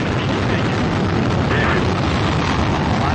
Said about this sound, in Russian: Все, грузовой корабль «Прогресс» МС-32 отправился к МКС, стартовал с Байконура.